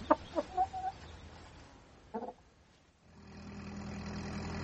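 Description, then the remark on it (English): A flock of chickens clucks in a quick burst of short, sharp calls, with one more squawk a moment later, before a steady engine rumble rises and fills the rest. “Foiled by a flock of renegade chickens.”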